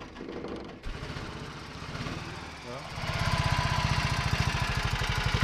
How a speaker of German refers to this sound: ein Mitstreiter aus dem Nienburger Oldtimer-Club, steht lächelnd neben dem tuckernden Heinkel-Roller.